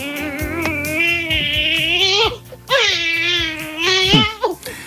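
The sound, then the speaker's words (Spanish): A newborn baby cries loudly in two long, wailing bursts with a brief catch of breath between them, clear with no talking. The baby is the first born since 1973 in Las Casas del Conde, a small village in Salamanca. “Este es el llanto del protagonista de nuestra historia. Es el primer bebé nacido desde 1973 en las Casas del Conde.”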